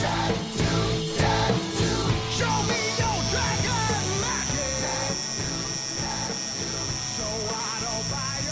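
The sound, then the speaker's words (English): A tattoo machine buzzes steadily as a tattoo is about to start, a continuous electric drone with a thin high whine over a low hum. Faint voices murmur underneath. “You can hear the same noise, the buzzing.”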